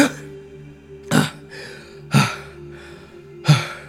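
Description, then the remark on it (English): A voice imitates someone running up behind a man, panting heavily: three loud, harsh, breathy gasps about a second apart, with softer airy breaths in between, and no words spoken. “As someone kind of runs up behind him, like panting heavily, like.”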